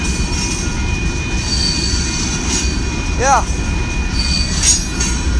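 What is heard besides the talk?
train passing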